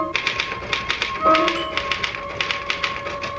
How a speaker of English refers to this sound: Can I use the typewriter for a moment? I just got to put one thought down before I forget it.